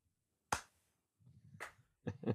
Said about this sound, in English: That's your one lone fan. Is that me clapping in the background? Yeah, it's just you.